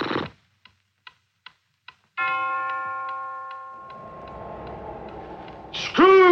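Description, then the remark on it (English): A few sharp clock ticks lead into a single resonant bell strike of one o'clock that rings out and slowly fades, with low rumbling underneath before a voice starts at the very end. “Awakening in the middle of a prodigiously tough snore and sitting up in bed to get his thoughts together, Scrooge had no occasion to be told that the bell was again upon the stroke of one.”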